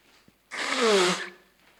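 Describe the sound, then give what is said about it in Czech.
A single loud nose blow lasting under a second: a sudden burst of breathy, rushing noise with a faint descending honk running through it, then quickly fading to quiet. “Se vysmrkám na to.”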